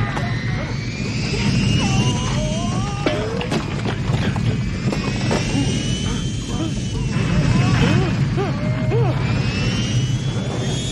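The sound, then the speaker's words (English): An airplane cabin rattles and shakes under a steady, loud engine roar, with scattered clattering knocks as luggage falls out of the overhead compartments, and people's voices calling out over the noise. “The plane starts to rattle and shake as luggage falls out from the overhead compartments.”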